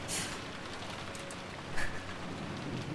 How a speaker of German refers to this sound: Ich liege im Wald und mir ist kalt. Es schüttet wie aus Kübeln und ein eisiger Wind weht an mir vorbei.